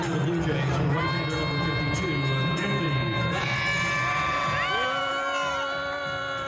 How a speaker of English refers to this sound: And then he went out on the pitcher's mound and the Canadians responded like this. They're jeering and